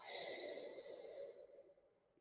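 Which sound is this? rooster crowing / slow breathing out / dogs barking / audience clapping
slow breathing out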